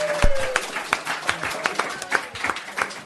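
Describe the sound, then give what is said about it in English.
Audience applause at the Allstate Hometown Voices Tour, live from Egg Harbor Cafe in Naperville: a scattered crowd claps in sharp, uneven bursts for about three seconds, with individual hand claps standing out over a steady rustle of clapping. “Oh, yeah, you can applaud.”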